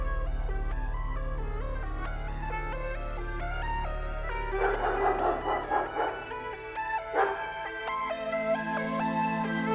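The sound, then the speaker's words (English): A dog barks in a quick run of several yaps, pauses, then barks once more, all over a steady bed of background music. “Dogs.”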